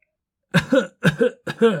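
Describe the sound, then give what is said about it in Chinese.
Three rough coughs in quick succession after a brief silence, each a harsh double burst with a raspy, throaty edge. “哎呀，你都吃了一个月的药了，咳嗽怎么还没好？”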